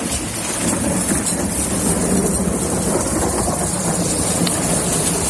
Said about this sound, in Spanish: Así suena la granizada, la tormenta que ha caído hace un rato en Cataluña, en Baleares, en la Comunidad Valenciana y en Murcia.